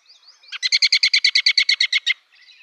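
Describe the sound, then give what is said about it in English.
A songbird gives a whinny call: a rapid, even series of about fourteen bright, clear notes lasting over a second and a half, with faint soft chirps just before and after. “And if you listen, you can hear its characteristic call sounds, particularly the whinny.”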